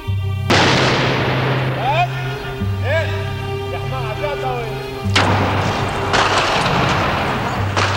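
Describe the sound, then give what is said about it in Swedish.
Heavy car bomb explosions with gunfire crackling through a dense, rumbling din, from the war in Lebanon as heard on TV news; two big blasts land about five seconds apart, with whistling tones and a low steady hum running underneath. “Det var ett sorl av bilbomber och skottlossning.”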